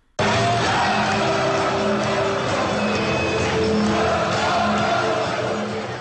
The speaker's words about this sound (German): Kleiner Ausschnitt wurde mir zugespielt. So jubeln 25.000 Zuschauer, wenn Alemannia Aachen ins Pokalendspiel, Niederrhein-Pokal, einzieht.